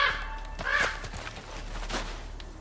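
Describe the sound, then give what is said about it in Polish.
A couple of harsh raven caws ring out against a low background rumble, with a few scuffing bursts of noise in between. No one speaks. “Znowu te kruki.”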